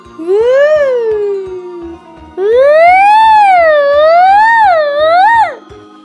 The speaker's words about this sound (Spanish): ya sabes, las ambulancias.